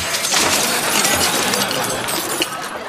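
household object, glass shattering

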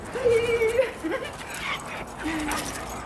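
animal, dog whimpering and yipping

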